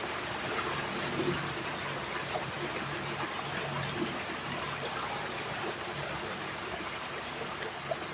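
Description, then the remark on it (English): A steady, continuous wash of flowing stream water with a soft babbling texture, even and unbroken throughout, moderately quiet with no voices; a stream leading to St. Nectan's Glen, an ancient site in Cornwall. “Allow the sounds to conjure images of water, a beautiful stream, perhaps glistening, dancing in the sunlight.”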